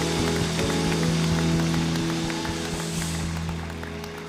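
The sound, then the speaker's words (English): A church audience applauds for those who have just given their lives to God, a dense rush of many hands clapping steadily with no clear rhythm, over a sustained low musical tone; the clapping eases slightly toward the end. “Let's clap our hands at all of our locations for those who just gave their life to God.”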